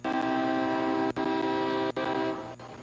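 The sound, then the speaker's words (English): A train horn blares in one long, steady, loud blast with a few short breaks, its harmonic tone droning from a distance before fading slightly at the end. The train is approaching along the outfield wall of a baseball stadium during a game. “The loud train is blaring its horn off in the distance.”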